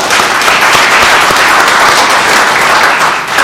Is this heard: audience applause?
yes